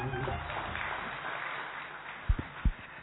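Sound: audience applause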